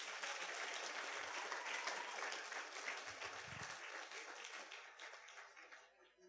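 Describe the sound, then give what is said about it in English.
Sustained applause from a large crowd honoring 51 years of marriage, dense and steady for several seconds before gradually thinning and fading toward the end. “And I think that deserves a round of applause.”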